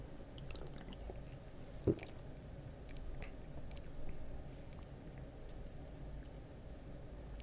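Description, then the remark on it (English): Someone quietly sips a caffeinated soft drink, with soft wet slurping and swallowing noises over a steady low hum, a single sharp click early on, and no talking. “That first sip, it really isn't bad.”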